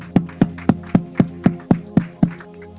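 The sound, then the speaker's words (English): A church audience gives God a hand clap during a sermon, about eight sharp, steady claps in an even rhythm, with a low sustained tone humming underneath and no talking. “You think, give God the hand clap.”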